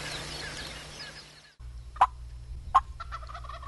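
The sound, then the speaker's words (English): Two wild turkey gobblers gobble in the morning, two sharp rattling bursts about a second apart, followed by softer trailing gobbles over a low outdoor rumble after an earlier hiss of noise. “And those two gobblers are still up there.”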